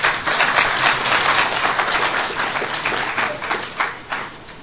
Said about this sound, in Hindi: तालियां तो बजाओ।